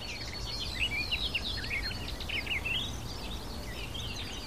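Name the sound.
barred warbler singing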